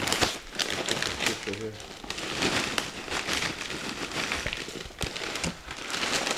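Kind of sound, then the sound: household object, paper crinkling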